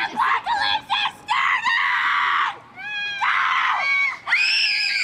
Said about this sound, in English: That scream belongs to camp director